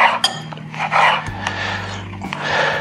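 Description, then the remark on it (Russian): A knife slicing pieces of food into thin, noodle-like strips on a board: a few rasping cuts with light taps between them, over a low, steady background hum. “Мелкой лапшой нарезаем порезанные части, чтобы они пропеклись максимально хорошо.”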